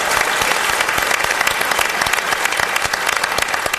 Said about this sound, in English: Thank you so much for being with us. And now let's have a round of applause for our candidates.